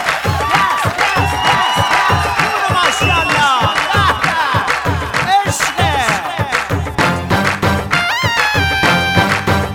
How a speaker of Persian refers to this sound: همگی حاضر بشیم، دستا سوتا جیغا بیا بلا ماشالله.